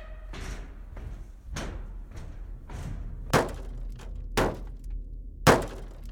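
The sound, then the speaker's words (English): Heavy thumps on a hollow metal surface as someone climbs up onto the roof of a truck, irregular at first then three louder bangs near the end, over a low rumbling background. “The wife in the truck can now hear someone climb up on top.”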